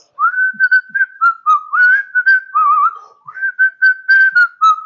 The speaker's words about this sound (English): I was at Walmart yesterday and I was whistling. I do that sometimes. I was whistling. I was whistling.